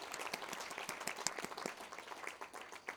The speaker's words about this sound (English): Thank you so much for your help. A round of applause for my volunteer and her firm hand.